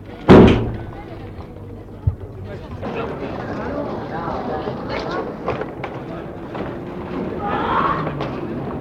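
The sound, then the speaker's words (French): A car door slams shut with a single loud, heavy thud near the start as someone gets into the car, followed by a softer knock and a steady murmur of indistinct voices and movement. “Et il entre dans la voiture.”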